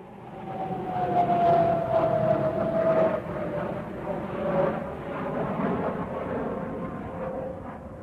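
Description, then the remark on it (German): A steady, loud jet-engine roar with a high whine that slowly drops in pitch as an airplane descends and lands in Tokyo, then settles into a lower rumble. “Das Flugzeug ist gelandet.”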